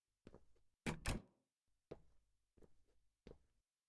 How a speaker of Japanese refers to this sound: ああ、扉は閉めて。しっかりとね。